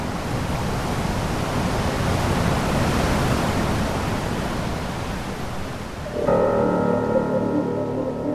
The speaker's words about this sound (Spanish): desde el cual se puede observar la confluencia entre los ríos Báquer y Neff, un lugar impresionante en el que la potencia de los caudales quita el aliento.